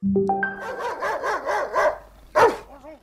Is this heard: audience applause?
no